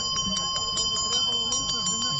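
A handheld bell rings briskly and continuously as a seller shows it at a Dalmatian village fair, its clear metallic tone struck again and again in a quick, steady rhythm, over a low murmur of voices and market bustle.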